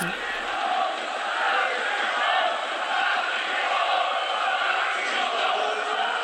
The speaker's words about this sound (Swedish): Och det är alltså motståndarsupportrarna då som applåderar honom. Det är de då som skanderar på läktarna Nazis raus, ut med nazisterna.